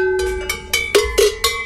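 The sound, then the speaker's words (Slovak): Several sheet-metal cowbells, made for cows, clank and ring in quick, irregular strikes, each a bright, rattling metallic hit with a sustained tinny tone, about six clangs in under two seconds, with no voices. “Toto sú kravské zvonce, plechovie, čisté na kravy.”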